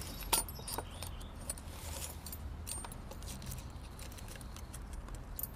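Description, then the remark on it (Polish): Small metal drill bits clink and rattle as someone rummages through a set of drill bits looking for a thinner bit, with a sharp clatter at the start followed by scattered light ticks over a low, steady hum. “Ja mam zawsze taki zestaw wiertełek przy sobie.”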